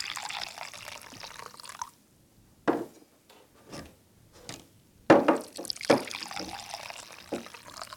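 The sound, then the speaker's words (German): Coffee streams steadily into cups in two clear pours separated by a short pause with a few clinks and light knocks, no voices present. “So, dann gieße ich jetzt schon mal die ersten Tassen ein.”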